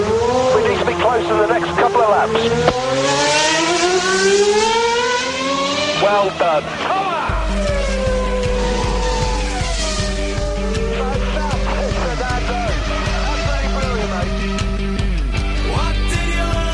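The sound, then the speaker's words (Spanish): Loud race car engines scream and sweep past one after another, their pitch rising and falling, with brief tire squeals over a steady, pulsing low rumble for the whole stretch. “Ahora, vámonos con los coches.”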